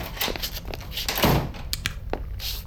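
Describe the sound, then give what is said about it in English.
A heavy door slams shut with a solid thunk near the middle, amid scuffling movement and clattering knocks as people barricade a store's manager's office against ghoulites, with no one talking. “Let's pick up the action as they try to barricade the room from errant ghoulites.”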